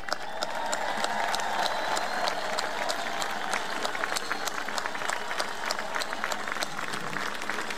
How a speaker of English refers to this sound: So please lift up those leaders with your voices and your applause.